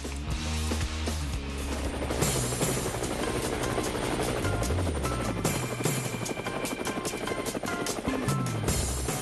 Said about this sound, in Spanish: Bueno, las aspas del helicóptero nos indican que vamos a seguir a nuestra colega Exilda Arjona.